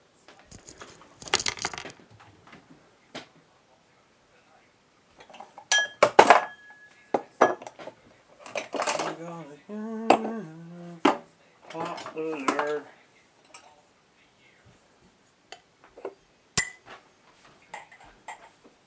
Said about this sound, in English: I'm opening a bottle of wine.